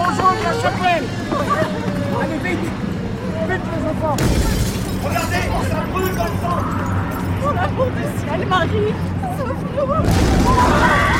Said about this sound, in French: Au bout de la rue, une explosion immense. Un bouquet blanc a éventré la chapelle où nous allions nous réfugier. Le bruit de la guerre. Le vrai, le sidérant.